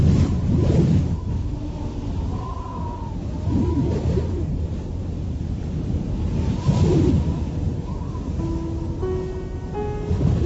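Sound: strong wind blowing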